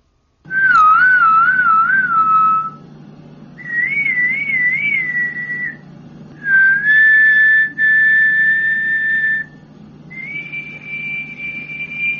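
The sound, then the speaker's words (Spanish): Four whistled phrases alternate between a person, one of the machine's makers, and a machine: human, machine, human, machine. Some waver and trill, others are long steady tones, clear with a faint steady hum beneath. “Y como lo mejor es poner un ejemplo, pues aquí tenemos una conversación a silbidos con uno de sus fabricantes.”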